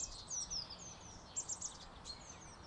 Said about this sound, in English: Not like today when the only sound is the wind and bird song.